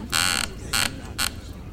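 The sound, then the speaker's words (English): Three squeaky creaks from a chair, a chaise lounge: a longer groan followed by two shorter ones, with a low background rumble underneath. “What did it say? I don't speak chair.”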